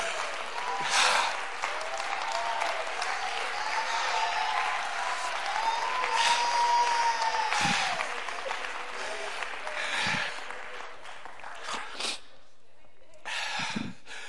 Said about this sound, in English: Oh, clap your hands and praise.